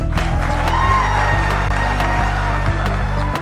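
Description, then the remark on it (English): A crowd cheers loudly and steadily for a few seconds as Florida Governor Ron DeSantis shakes a man's hand, with scattered claps and whoops mixed into a dense, continuous roar and a low steady hum underneath. “In fact, he just went on to shake the guy's hand as the crowd cheered.”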